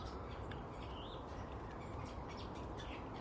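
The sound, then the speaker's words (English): Faint, scattered chatter from garden birds to the right: brief high chirps and a rising whistled note over a steady low rumble of background noise, with no voices. “Ah, we're getting some chatter from the right now.”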